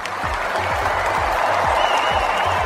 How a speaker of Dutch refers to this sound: Dat gebeurde met een plechtigheid in het Panathinaikonstadion. Daar waren in 1896 de eerste moderne Olympische Spelen. Bij de overdracht een enthousiast publiek.